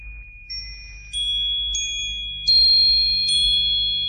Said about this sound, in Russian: Ногами-то я подковки на звон испытываю.